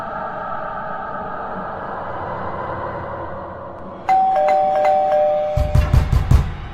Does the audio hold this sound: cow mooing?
no